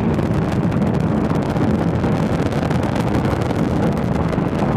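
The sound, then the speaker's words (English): A powerful, continuous roar of the nine Merlin first-stage engines of a SpaceX Falcon 9 rocket launching the Crew-2 Dragon mission to the International Space Station, 1.7 million pounds of thrust, deep and rumbling with a crackling, wind-like texture, holding steady and loud throughout without any voices. “Nine Merlin engines on the first stage providing 1.7 million pounds of thrust.”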